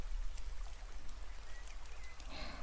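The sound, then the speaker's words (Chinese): Light rain falls in a steady, soft hiss of patter during a sun shower, faint and continuous, with a few thin chirps in the background and no voices. “这是太阳雨吗？啊，像刚才的天气，就是太阳雨啦。”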